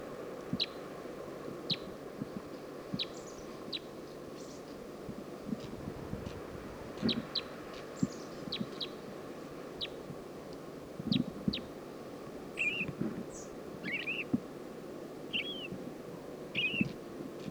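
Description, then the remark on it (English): A female crossbill, one of a flock of four, perched on top of a Douglas fir along the road down to Stinson Beach, gives a run of short, sharp, high chip calls at irregular intervals, joined later by a few curving warbled notes, over a steady low rumbling background. “Saw a flock of four crossbills up on top of a Douglas fir, and this is one lone female.”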